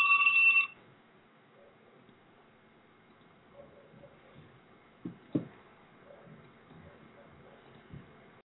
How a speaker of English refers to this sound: The phone is ringing. Let's see if we can get an answer.